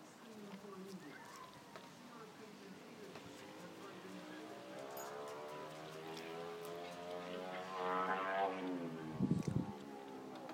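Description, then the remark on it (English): A small remote control model aircraft engine whines steadily, its buzzy pitch drifting up and down as it circles, growing louder toward the end with a brief low thump. “Yeah, I think that's one of those remote control aircrafts.”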